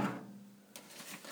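A plastic lid on the left side of a 48-ounce water reservoir is lifted off, a low hum giving way to a brief rustling scrape and light clatter of plastic parts.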